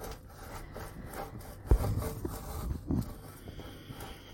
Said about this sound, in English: I'm just shredding some cheese.